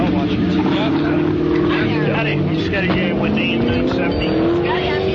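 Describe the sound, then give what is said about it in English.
A race car engine idles with a loud, steady drone, then revs up, its pitch climbing over the last few seconds. Muffled voices can be heard faintly in the background. “Is that the actual car revving up?”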